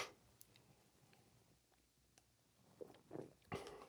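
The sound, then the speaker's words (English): Quiet drinking sounds of beer being sipped: a few faint clicks, then a couple of short slurping sips and a swallow near the end, with no one talking. “I'm going to take another sip of beer here.”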